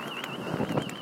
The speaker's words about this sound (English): Car alarm off.